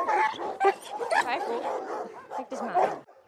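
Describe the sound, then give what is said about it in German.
Several dogs at an animal shelter in Lübeck, Germany, bark and yip over one another in a steady, overlapping chorus for about three seconds, echoing, with a few higher whiny yelps mixed in. “Schwer erziehbare Hunde, ausgesetzte Katzen.”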